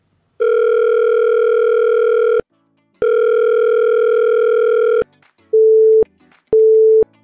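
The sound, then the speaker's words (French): A telephone line tone on a call to the voicemail of the show La Mise à Jour: two long, buzzy ringback tones separated by a pause, followed by two short, clean beeps, loud with no one speaking. “Vous êtes bien dans la boîte vocale de la mise à jour. Laissez un message.”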